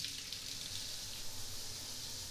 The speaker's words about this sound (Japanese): 僕の全身にタオルをかぶせて、その上からシャワーかけていきまちからね。お湯の温度はこれくらいかな。じゃあシャワーかけていくよ。